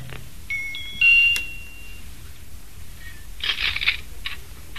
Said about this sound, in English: I'm going to ring the bell again.